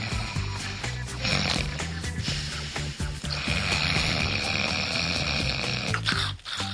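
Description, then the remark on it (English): A person fakes loud, rumbling snores in a steady rhythm, a playful imitation of a sleeping tiger with breathy snorts and no talking. “And Tiger falls asleep. And Tiger is asleep.”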